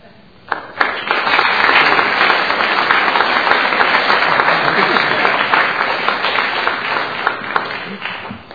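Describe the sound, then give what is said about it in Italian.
A crowd breaks into sustained applause, many hands clapping in a dense, steady roar that starts abruptly after a moment of quiet and holds evenly loud until the end. “E un applauso a tutti loro che sono i rappresentanti anche di tanto che sono al lavoro.”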